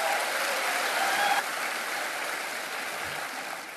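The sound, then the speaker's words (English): A crowd at Harvest applauds to welcome Dr. James Dobson, a dense wash of clapping that holds strong for over a second, then eases slightly and continues at a fairly even level without any voices. “Crowd. Well, they're excited to see you here.”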